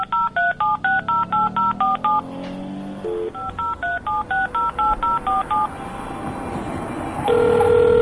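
A father punches in a number on a touch-tone telephone keypad to call an ambulance: two quick runs of clear electronic beeps separated by a brief pause, followed by a steady line tone.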